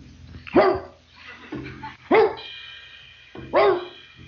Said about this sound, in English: Then I begin, well, actually, I get something caught in my throat, some dust or something, and I begin coughing. But everybody thinks I'm barking. They don't understand that I'm only trying to clear my throat.